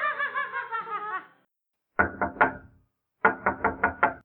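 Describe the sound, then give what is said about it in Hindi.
A brief high giggle fades out, followed by loud knocking on a door: a quick set of three raps, a pause, then a faster run of five. Roli is arriving at the door, in the children's story Roli Poli. “अब ये दरवाजे पे कौन आ गया?”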